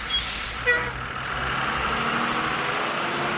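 bus air brakes hissing

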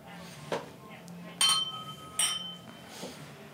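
glasses clinking

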